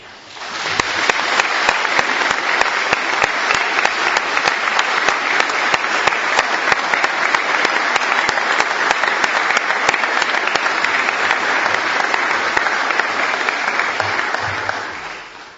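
An audience at a Mass breaks into sustained applause for one another and especially for the Father General: dense overlapping clapping that swells in quickly, holds steady and loud for about fifteen seconds, then tapers off at the end.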